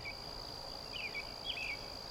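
Lush forest ambience on Earth filled with a steady, high-pitched insect drone, broken by a few brief chirping calls over a soft, constant background hush. No one speaks.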